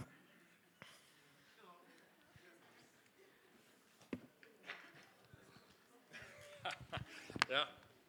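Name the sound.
heavy snorting breathing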